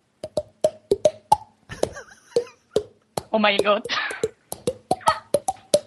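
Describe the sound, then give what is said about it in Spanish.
A rapid series of hollow, pitched pops from slapping the cheeks, their pitch shifting up and down to tap out the Super Mario theme melody, briefly interrupted by an astonished exclamation. “Te puedo hacer la canción del Super Mario, ¿eh? Pegándome en las mejillas.”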